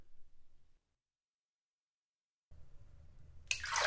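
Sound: shower water running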